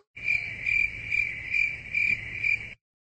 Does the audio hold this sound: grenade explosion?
no